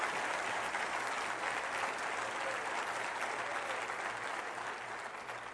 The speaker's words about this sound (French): Plusieurs se rendent directement au dîner, mais j'aimerais qu'on applaudisse les gradués du Vase Restaurée qui sont assis ici ce matin.